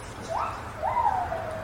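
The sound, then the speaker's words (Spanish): A South American night monkey gives two tonal, whimpering calls, a short rising one then a longer one that swells and trails off, somewhat like a puppy's whine, over a steady low background rumble. “Si escuchamos el sonido que hace el mono. Ah, ese, el mono de noche.”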